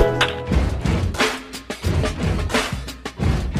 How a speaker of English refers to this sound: The sound of a cheering crowd tells it all.